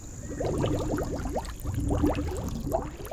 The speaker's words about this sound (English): We feel bad and a little scared, so we put her back in the water where she happily blows bubbles.